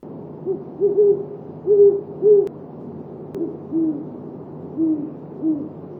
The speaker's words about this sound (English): Last evening, two owls were hooting while the moon was rising in the east. The air was clear and crisp, just right for breathing. Hoo, hoo, hoo. Then, hoo, hoo, hoo. As they blended their mating calls, they flew into the acreage